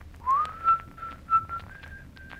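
A soft whistle carries a slow melody, rising at first and then holding steady, sustained notes in a gentle, unhurried phrase with no talking.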